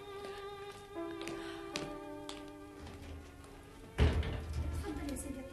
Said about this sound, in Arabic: روحي حلي الباب.